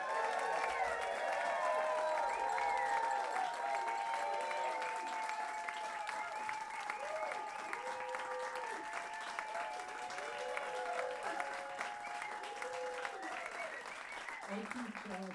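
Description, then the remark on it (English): A crowd applauds steadily and fairly loudly for about fifteen seconds as a big band's flute player is introduced, dense clapping with scattered cheers and shouts mixed in, holding level before easing slightly toward the end. “I keep telling her not to get more applause than me.”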